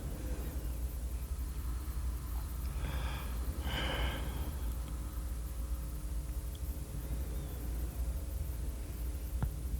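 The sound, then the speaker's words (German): A single drawn-out human yawn, breathy and airy, lasting a couple of seconds, heard over a steady low hum, played back from a tape recording in an experiment on whether a recorded yawn is as contagious as a seen one. “wissenschaftliches Experiment zur Klärung der Frage, ob ein Gähnen, dem man ganz genau anmerkt, dass es nur ein auf Tonband aufgenommenes, also vom Menschen abgelöstes ist, auch so ansteckend wirkt, wie das Gähnen eines Menschen, den man sieht.”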